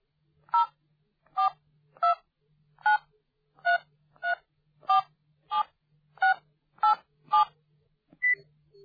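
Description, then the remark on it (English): A phone number is dialed on a touch-tone keypad: about eleven short, clear electronic beeps of varying pitch in a steady rhythm, followed by a brief different tone at the end. “I'm calling to see how you are.”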